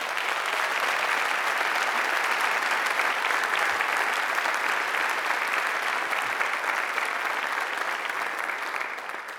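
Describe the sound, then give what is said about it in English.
A large audience of hundreds of people claps steadily, a dense sustained wash of applause that holds at full strength for several seconds before tapering slightly at the end. “If you would say that, would you just applaud for us right now?”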